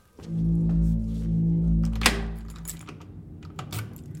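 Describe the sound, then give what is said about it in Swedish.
A laptop lid is slammed shut with one sharp thunk after a steady low hum, followed by a few faint scattered clicks and taps. “Sen smäller du ihop datorn och går med snabba steg mot nyhetschefens plats.”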